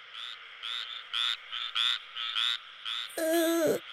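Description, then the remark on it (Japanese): Frogs croak at a frog exhibition hall in a steady rhythmic series of about eight bursts, then a louder, deeper drawn-out croak closes the sequence. No one speaks. “ゲロゲロ言ってる。”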